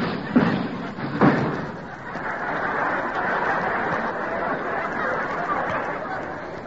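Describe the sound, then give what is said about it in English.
A loud crash as Groucho, landing his helicopter, comes through the roof: two heavy thuds in quick succession, then a steady, noisy wash of clattering debris that continues without letting up. “He's come through the roof again.”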